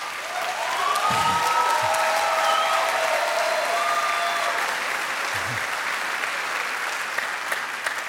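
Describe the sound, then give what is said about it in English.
An audience claps steadily, a dense, even wash of applause that holds at a strong level for about eight seconds, with a few faint tonal calls rising above it early on. “I feel we need to improve our clapping.”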